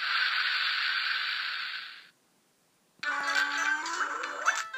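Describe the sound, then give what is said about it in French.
A whale, surfacing to breathe, exhales through its blowhole on top of its head in one long, steady hissing whoosh lasting about two seconds, then a pause, followed by layered whistles, squeals and buzzing tones. “Les baleines remontent à la surface pour respirer. Je respire grâce à mon évent.”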